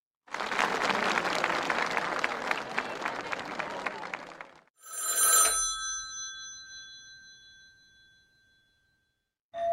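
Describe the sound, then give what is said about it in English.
A telephone bell rings loudly, a rapid metallic rattling trill lasting several seconds, followed by a single clear bell stroke that hums and slowly fades away. “You would not need to see a phone ringing in order to know that a phone was ringing.”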